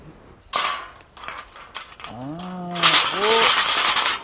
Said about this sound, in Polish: Poza tym ktoś mi poradził, że krety nie lubią, jak brzęczą puszki. Puszki po piwie, na drucie też, o tam widać.